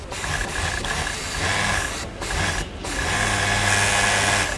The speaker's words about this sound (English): And in Colombia, two hands will do the same thing. Push this pink fabric under the needle of a sewing machine in order to put together the V-neck women's t-shirt.